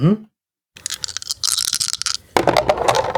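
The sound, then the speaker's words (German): Three dice rattle and clatter for a few seconds in a busy, uneven burst of clicks and knocks, following a brief voice at the start and a short pause, rolled again and landing on a 1, a 6 and a 1. “Magst du nochmal gucken, was dann nochmal rauskommt? Nochmal 3 Würfel?”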